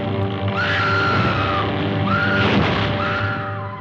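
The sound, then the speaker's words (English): An actress in a 1933 film lets out three shrill, drawn-out screams in quick succession, each rising and falling in pitch, loud over a dense, rumbling background with no talking. “And the original Scream Queen, Fay Wray, from King Kong way back in 1933.”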